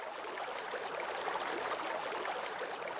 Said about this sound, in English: And what really surprises me from the outset is the use of sound. Right. As you approach the fountain, you can hear the sound of the water bubbling out from above and falling into the basin.